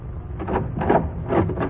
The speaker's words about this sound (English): Listen to me now. Go open the door, Doc. Go open it or I'll let you have it right now.